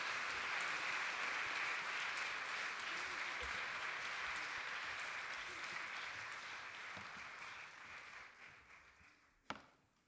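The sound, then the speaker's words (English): Sustained crowd applause and cheering for a group of people, with dense clapping, loud at first and slowly fading over about ten seconds, ending with a single sharp knock. “Let's give these guys another cheer.”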